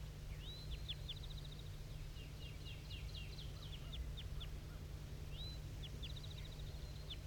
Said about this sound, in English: So recording at 7:34, still hearing tons of flight calls coming from this bird.